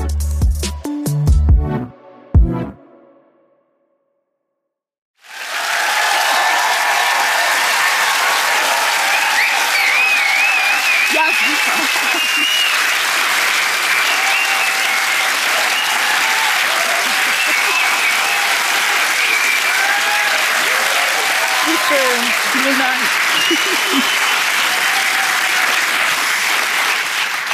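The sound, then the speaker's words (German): After a few seconds of music and a brief silence, a large theater audience in Koblenz breaks into sustained, loud applause at a live show, dense and steady for over twenty seconds, with scattered cheers and whoops on top. “So hört sich Applaus an, wenn er aus Koblenz kommt.”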